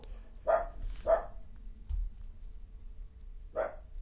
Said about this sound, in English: Never mind my coon dogs, I got a coon treat out here.